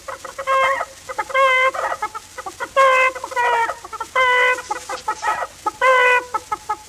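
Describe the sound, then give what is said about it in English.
Chickens cackling in a busy, repeated series of loud harmonic squawks and clucks, with short bursts following one another in an uneven rhythm and no talking. “And the chickens to cackle.”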